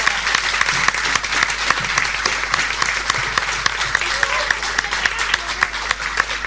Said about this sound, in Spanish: Les pido un aplauso para ellos.